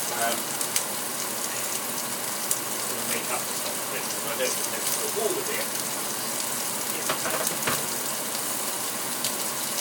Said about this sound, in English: Right, what I'm doing at the moment is just putting some hot water in a jug with half a beef oxo cube.